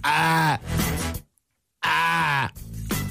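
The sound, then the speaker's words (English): A person imitates a goat with two loud, wavering bleats, the second following a short silence, each trailing off into a lower groaning tail. “Trying to do a good goat, but I just, this is the thing I always love about goats.”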